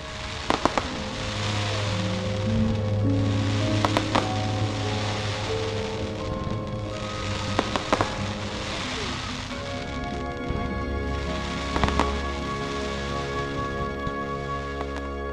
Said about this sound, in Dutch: Oh ja, we liepen met al die Sheffielders door het park en toen zagen we met z'n allen het grote vuurwerk.